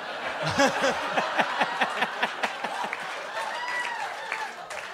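An audience applauds, with steady clapping mixed with laughter and cheering voices early on, then thins into scattered claps and murmuring crowd noise.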